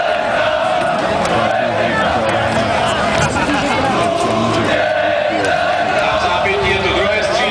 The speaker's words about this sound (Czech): a já k tomu můžu pustit tady takovou ukázku, nevím, jestli to bude úplně patrné, ale tohle je popěvek fanoušků, kteří oslavovali Luďka Zelenku. A jako říkám, není to úplně tak zřetelné, ale mohli bychom z toho něco možná rozumět.